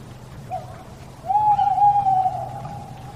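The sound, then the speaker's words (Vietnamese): A large owl hoots: a brief soft note, then a long, steady, drawn-out hoot that rings out clearly over a low background rumble. No one speaks. “Nhìn cho kỹ, vua chỉ thấy một con cú thật lớn.”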